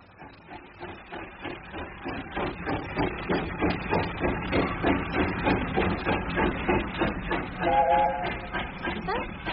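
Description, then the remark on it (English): A train rumbles past a railway bridge, its wheels clattering in a fast, steady rhythm that swells slightly, with a brief high whistling tone near the end. “Well, I know for a fact he spends a lot of his spare time watching them from the railway bridge there.”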